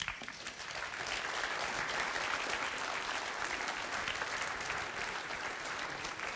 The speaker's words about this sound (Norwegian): Jeg vil be de reise, og så gir vi dem en felles applaus og en t-skjorte.